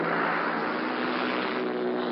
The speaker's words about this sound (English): The sky now is full of the noise of these paratroop planes as they circle the aerodrome before they take their course.